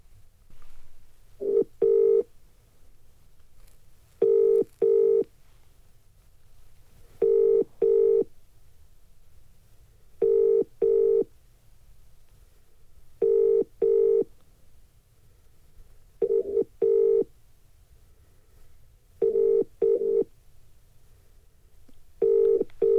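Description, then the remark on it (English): A phone call to someone's mother rings out with a steady ringback tone, eight double buzzes spaced a few seconds apart over a faint low hum, and nobody answers or speaks. “Can Darren call his ma and act like she called him from Dean?”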